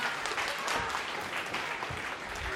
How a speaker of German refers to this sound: Was war denn das für ein Applaus?